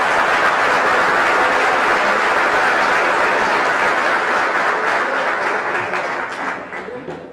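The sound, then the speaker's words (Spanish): A church audience breaks into loud, sustained applause for the Lord, a dense crackle of many hands clapping at once that holds steady before gradually thinning out and fading near the end. “Un aplauso al Señor, que se escuche.”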